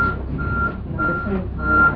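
vehicle, truck reversing beeps

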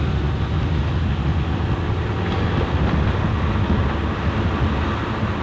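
vehicle, road traffic passing

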